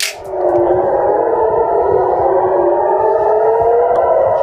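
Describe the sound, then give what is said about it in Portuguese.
An air raid warning siren in Israel wails loud and steady on a Saturday, sounding to announce an attack by Iran, its sustained tone gently rising with a slight echo, sounding alone with no voices throughout. “Os céus de Israel se iluminaram nesse sábado e as sirenes soaram para anunciar um ataque histórico do Irã contra Israel.”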